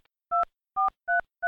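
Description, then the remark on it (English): Four short beeps from a telephone keypad, each a clean two-note tone, pressed at a steady pace with brief gaps between them, as someone enters a 5-digit zip code into an automated phone menu for after-hours urgent feline care. No voices. “To find a facility near you, use your telephone's keypad to enter your 5-digit zip code.”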